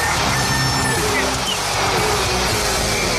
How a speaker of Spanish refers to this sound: Eso, eso sí, con la cortinilla.